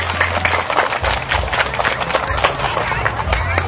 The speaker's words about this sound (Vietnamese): thì các cháu hãy dành một tràng vỗ tay thật lớn để cam kết.